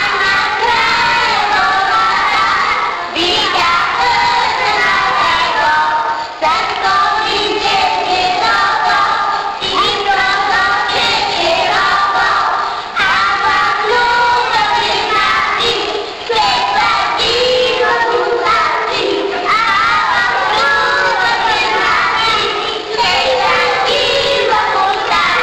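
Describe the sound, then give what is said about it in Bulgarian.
A group of seventeen kindergarten children in Bulgaria sings a greeting song together for a visiting official at their renovated kindergarten, loud and steady, their voices blending in sustained phrases with short breaks between lines for about twenty-five seconds. “Децата го поздравиха с песен.”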